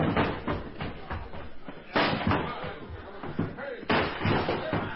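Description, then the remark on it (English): Bodies slam repeatedly against a door, with loud, heavy booming thuds landing in surges, the biggest about two seconds apart, over a rumbling, clattering background and indistinct voices. “Okay, one more rush to get that door open.”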